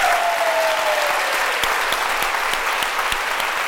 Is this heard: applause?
yes